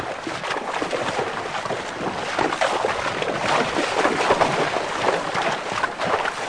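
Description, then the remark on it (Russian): Spring water pours non-stop from a dark iron pipe set into a forest hillock, above a small stone-lined bathing font. It makes a continuous splashing rush that stays at an even level throughout, with no voices. “Уже многие годы вода безостановочно льется из темной железной трубы, вделанной в лесной пригорок.”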